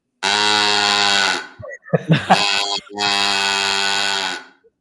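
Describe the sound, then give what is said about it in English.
A cow call noisemaker, a device for making animal sound effects, gives two long, buzzy, reedy moo tones, steady and low-pitched, with a short burst of voice sounds in between, in a barn. “You had to make all the animal sound effects. So this one is a cow ball.”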